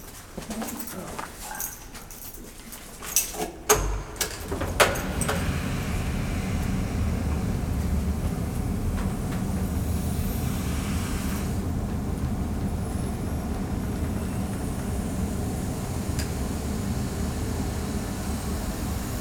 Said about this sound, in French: et puis vous allez entendre derrière vous, vous avez trois grands soufflets qui, avec l'air qui va provenir donc du moteur, qui vont se gonfler, vous allez entendre le vent donc, qui va pouvoir donner vie ensuite au son à l'intérieur de l'instrument.